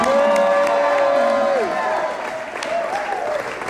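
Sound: audience clapping and cheering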